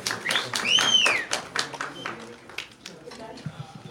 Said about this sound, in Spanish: Bienvenida, mi amor. El aplauso fuerte.